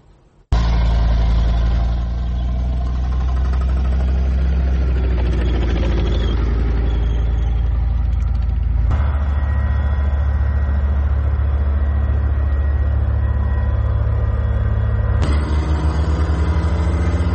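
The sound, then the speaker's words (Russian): The engine of a heavy armored self-propelled anti-aircraft gun, used against aerial and ground targets, rumbles loudly, starting abruptly and running steadily with a deep idling throb, its pitch shifting slightly a couple of times. “Це універсальна зенітно-самохідна установка, вона працює як по повітряним цілям, може збивати літаки, гелікоптери, шахіди, точніше дрони камікадзе, крилаті ракети, також вона працює по наземним цілям.”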